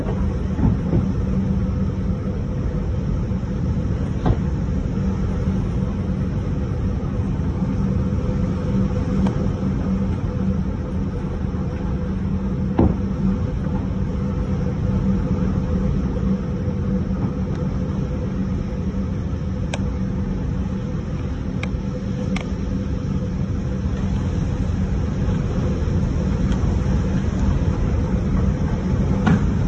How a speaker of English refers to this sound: Those occasional thuds are debris striking this person's house. Yeah. And there's bricks in the street, and there's a whole roof. A roof blowing off in Iowa.